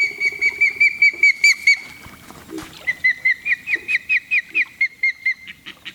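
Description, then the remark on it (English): Juvenile ospreys, large fish-eating hawks, at a remote lake in northern Ontario call insistently for food, a rapid series of high, thin whistled peeps repeated in two bursts, the second a steady run of about a dozen evenly spaced chirps. “Hear their juveniles calling for food?”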